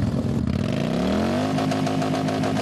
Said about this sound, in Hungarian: Zajos felvonulással indult a székelyföldi motorosok találkozója.